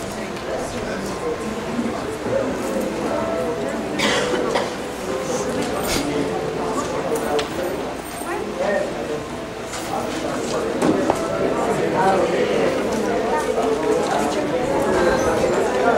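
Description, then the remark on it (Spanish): A church audience applauds in a long, steady burst of many hands clapping, a dense crackling patter that holds strong throughout, with voices mingling underneath. “Dele fuerte el aplauso, hermano.”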